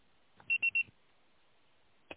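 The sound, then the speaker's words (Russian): A voicemail signal on a phone call forwarded to a voicemail box: three quick, high-pitched electronic beeps in a rapid even row, loud against a quiet line, then silence broken by a single short click. “Можете оставить сообщение после сигнала.”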